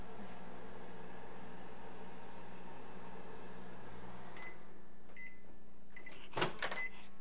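A microwave oven runs with a steady low electrical hum for several seconds, then cuts off, followed by a couple of short beeps and a quick clunk like its door opening. No one speaks.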